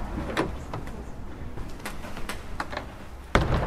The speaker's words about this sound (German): Sie öffnet eine schwere Tür, geht ein paar Schritte voran ins Innere und deutet mit beiden Händen auf die reich verzierten Wände im Neorenaissance-Stil. Wir sind jetzt in der Schlosskapelle.